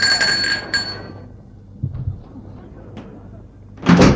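A ringing gate doorbell chime fades out, then the gate is opened by a domestic servant with a few heavy clunks and a faint latch click, ending in a burst of louder rattling noise.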